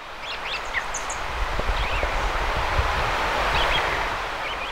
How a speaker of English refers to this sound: There's what sounds for all the world like a blue-headed vireo singing in the top of one of these aspens. And we can also hear robins, chickadees, a flicker off in the distance.